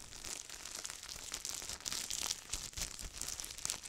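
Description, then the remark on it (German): A cellophane bag is crumpled steadily, giving a dense, bright crackling with many sharp little snaps and rustles that continue without pause for several seconds, fairly soft. “Zellophantüten zerknüllen und so weiter.”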